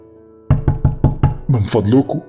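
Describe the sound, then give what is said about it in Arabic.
Five hard, loud knocks on the door of a house land in a quick, even rhythm. A man's voice then shouts urgently, pleading for help, right after the pounding stops. “في الآخر الراجل وصل قدام بيتي، خبط جامد على الباب وهو بيصرخ وهو بيترجاني عشان اساعده.”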